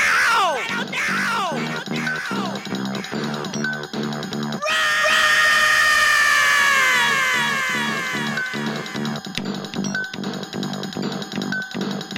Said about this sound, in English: The supermarket clerk's scream gives rise to panic.